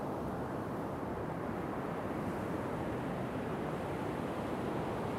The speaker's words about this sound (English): The rolling waves are doing what they do. Building, peaking, falling, breaking, bubbling. Rolling into the shore, then dispersing onto the sand and fading back into the oncoming waves.